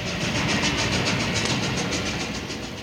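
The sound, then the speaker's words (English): A train rumbles steadily along the rails, its wheels clicking in a fast, regular rhythm over a dense low roar, loud, easing slightly toward the end. “Ride this train.”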